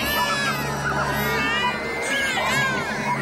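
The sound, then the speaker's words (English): Several children scream and wail at once, loud, their shrill overlapping voices rising and falling continuously for the whole stretch with no break. “This is not even a fourth of the amount of screams that Iraqi children have made as our children, as our fucking soldiers shoot off their faces.”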